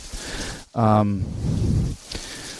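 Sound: heavy rain and wind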